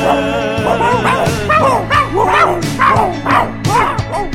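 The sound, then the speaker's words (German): Several dogs bark and yip excitedly in a rapid, overlapping chorus, loud, with high-pitched yelps rising above deeper woofs, over a steady musical background. “Das ist die Stunde der Hunde.”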